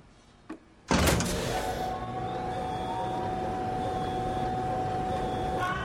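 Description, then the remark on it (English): A brief click, then a loud mechanical grinding hum as a heavy gray door, activated by a guard, rises, a steady motorized drone with faint high whine holding for several seconds, no voices. “A heavy gray door rises.”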